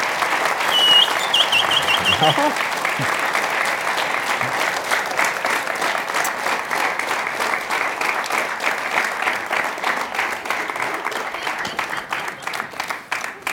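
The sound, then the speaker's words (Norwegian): An audience breaks into sustained applause for Alexander Stockholm, a dense, steady wash of many hands clapping that stays loud for about thirteen seconds before easing slightly at the end. “Gi en stor applaus til mannen, Alexander Stockholm.”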